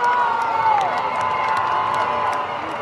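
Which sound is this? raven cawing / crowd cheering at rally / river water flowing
crowd cheering at rally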